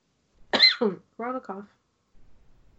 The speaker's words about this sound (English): Corona cough. So this, we're taking it seriously, but joking about it.